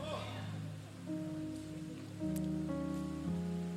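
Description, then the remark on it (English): Heavy rain drums steadily on a roof, a dense, constant hiss filling the space, while sustained organ-like chords hold and shift underneath. “Well, do y'all think that we can get our minds on the Word through this rain?”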